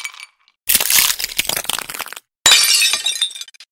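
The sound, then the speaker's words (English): Ice cracks and breaks apart in two loud bursts of crunching, splintering noise separated by a brief silence, with no voices present. “it appears that we have now fallen through the polar ice caps atop which the penguins and Maya are sliding”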